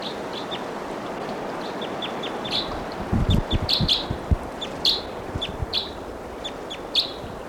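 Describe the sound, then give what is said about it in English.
A bird calls repeatedly from up in the treetops, a string of short, high chirps in an irregular rhythm over a steady outdoor hiss, with a few low thumps partway through. “This is calling from somewhere in the treetops.”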